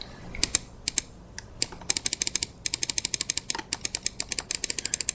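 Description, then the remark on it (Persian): Rapid clicking of someone typing on a computer keyboard, fairly quiet, in irregular bursts that pick up into a steady run of keystrokes, with no one talking. “ببینم، آها میشه تایپ کرد، بذار چیز کنم، سب کنید یه لحظه من این رو پاک کنم.”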